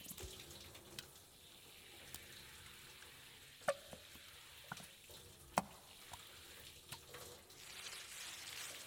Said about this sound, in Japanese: まずは、先ほど使用したオイルをシャワーで洗い流していきますね。そのまま立っていてください。